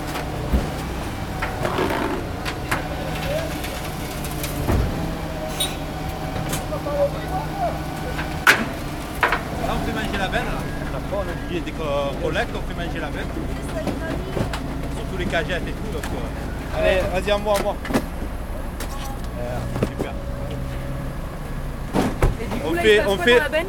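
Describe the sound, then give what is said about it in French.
Busy outdoor street market at the Marché du Prado on a Friday early afternoon as a team of garbage collectors clears the morning's waste: steady traffic and engine rumble, sharp clattering bangs and scraping throughout, pigeons cooing, and indistinct voices chattering. “Mais tout de suite, nous vous proposons de partir faire un tour au marché du Prado.”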